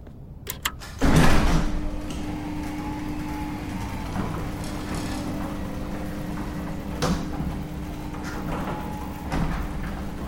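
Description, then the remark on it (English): A large bay door rumbles and slides open with a loud initial clunk, followed by a steady mechanical drone and faint squeals, with a few more thuds along the way. No one speaks. “I waited for the bay door to fully open, then I hit the power switch.”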